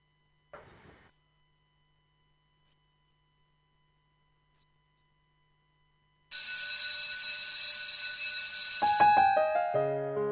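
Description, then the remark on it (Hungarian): After a brief soft thump and several seconds of silence, a bell starts ringing loudly and continuously, a bright, rapid metallic ring that keeps going until the end, with no voices. The bell closes the 'Olvasás óra' (reading hour) programme on Mária Rádió. “megint hallom a csöngő szót, így aztán elbúcsúzom, folytatjuk az olvasás órát.”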